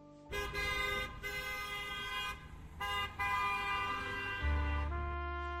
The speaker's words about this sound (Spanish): El sonido insistente de un claxon me distrajo. Semáforo en verde.